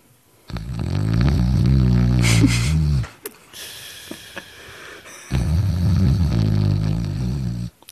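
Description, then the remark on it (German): Someone imitates with their voice the loud snoring of a colleague who fell asleep during a concert: two long, rumbling, rasping snores, each lasting a couple of seconds, separated by a short, quieter breathy pause, with no talking. “Da war einfach der Kollege, der das offenbar auch nicht auf dem Schirm hatte, wie lange wir rumsitzen, eingepennt und schnarchte derartig laut, dass wir uns wirklich genötigt fühlen, von beiden Seiten, der saß in der Mitte,”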